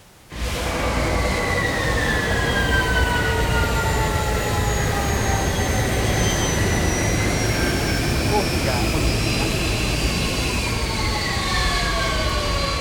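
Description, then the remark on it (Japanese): A loud aircraft engine roar fills the whole stretch, steady and dense, with whining tones that glide slowly downward in pitch as the craft seems to descend. “飛行機なのか。”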